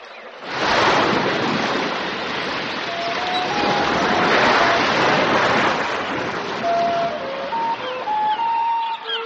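Sea waves wash steadily ashore in a continuous, loud roar of surf, with brief thin whistling tones rising faintly above the rushing water toward the end.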